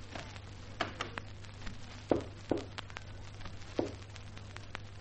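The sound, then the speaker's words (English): Several muffled footsteps at an uneven pace of someone approaching from inside, behind a door, over a steady low hum. No one speaks. “Someone coming from inside.”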